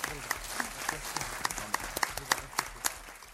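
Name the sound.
audience applause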